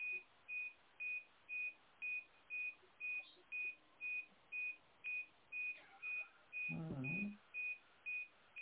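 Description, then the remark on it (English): A hospital equipment buzzer beeps steadily outside a hospital room, repeating about twice a second throughout, a thin high-pitched tone pulsing evenly, with a brief low rumble of movement near the end. “There's a goddamn buzzer in the background.”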